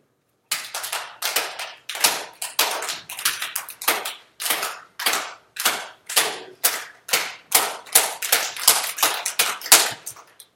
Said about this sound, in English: so you guys want to play the clapping game real quick.